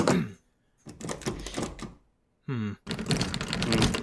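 Someone rattles a locked door that will not open, with bursts of loud clattering and jiggling, broken by short pauses and a brief high creak partway through.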